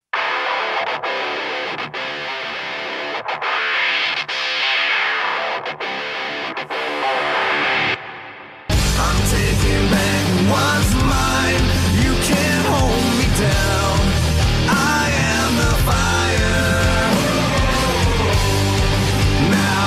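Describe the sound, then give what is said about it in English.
A hard rock wrestling entrance theme opens with sparse, pulsing hits and a rising sweep, then a loud, distorted full band crashes in and drives steadily to the end without vocals. “And his most recent theme that he had right before Honor No More is the one we'll talk about here.”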